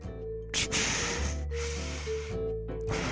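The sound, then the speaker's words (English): A voice imitates Darth Vader's heavy breathing: two long, loud, hissing breaths with a low mechanical rasp, one drawn in and one pushed out, steady and slow. “So you just did heavy breathing basically.”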